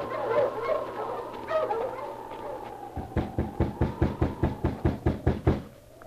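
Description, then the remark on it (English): A team of sled dogs whine and whimper with high, wavering cries, then a rapid, evenly spaced run of about a dozen short, sharp yaps or barks follows, steady in loudness, as their driver halts them in the early morning at an isolated, snowy spot surrounded by birch trees, in a fierce wind. “A week passed, and then, in the early morning, at an isolated spot surrounded by birch trees, a driver halted his team of dogs.”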